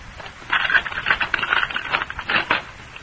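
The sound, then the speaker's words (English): A door being unlocked: a quick run of metallic clicks and rattles for about two seconds, a bit like a key working a lock, with no voices. “I'll unlock the door.”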